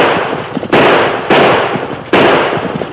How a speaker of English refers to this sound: You ornery fool, you're shooting wild!